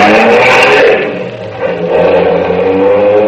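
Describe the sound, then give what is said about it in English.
A Bentley's engine revs hard as it accelerates in pursuit of another car, loud, with a rising, whirring roar that dips briefly before surging again. No voices are heard. “I jumped into the car, pushed Carol over, and yelled at the handsome brute. Follow that car.”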